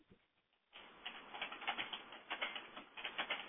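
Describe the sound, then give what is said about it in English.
Rapid, irregular clicking of keys on a keyboard during a conference call, a steady patter of taps that starts after a brief quiet moment and continues throughout, moderately loud. “Both the RAA, sorry, if someone could stop typing or put themselves on mute, your choice.”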